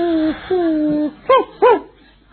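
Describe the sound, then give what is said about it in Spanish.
A dog whines in two long, drawn-out whimpers, then gives two short, sharp barks in quick succession, with no one speaking. “¿Y qué le puede enseñar a este perro?”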